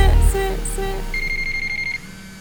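A telephone rings with electronic tones: a couple of short beeps, then a rapid pulsing trill held for about a second, loud and close over a low musical backdrop.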